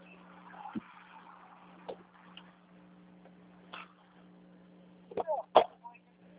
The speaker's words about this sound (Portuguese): Deixa eu entrar no carro aqui, tem o maior barulho de carro aqui.